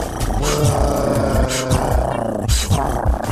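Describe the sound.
A person imitates the purr of pet cheetahs with a steady, low, rumbling vocal growl that runs throughout, broken by a few breathy rasps.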